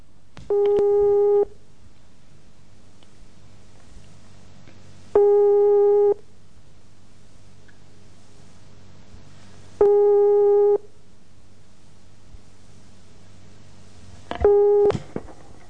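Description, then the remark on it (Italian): A telephone busy tone, after the other party hung up the call, pulses in four steady, identical beeps spaced about four seconds apart, clear over a faint low hum, with no voices. “Ma che mi combina? Mi attacca il telefono, lei?”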